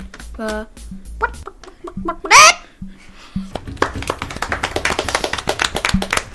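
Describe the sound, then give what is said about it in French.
A person imitates a hen with their voice at the audience's request: a few short throaty clucks, a loud high squawk, then a quick run of sharp clicking pulses, fairly loud. “On pourrait commencer par un animal. Vous voudriez quel animal?”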